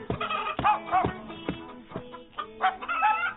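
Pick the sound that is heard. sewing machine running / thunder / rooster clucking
rooster clucking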